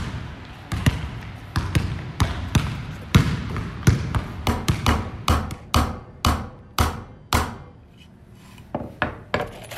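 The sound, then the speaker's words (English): A basketball being dribbled by a student playing basketball at the MG21 school, in a steady run of sharp, thumping bounces, about two per second, with a few quicker double bounces and short pauses, over a faint background hum. “Play basketball, create metalwork, draw, and spray paint.”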